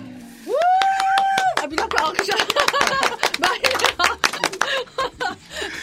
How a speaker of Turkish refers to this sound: Alkışı unutmamak lazım.